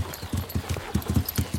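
Horse hooves clip-clop in a steady, brisk rhythm, about eight or nine distinct strikes, fairly loud with no voices over them.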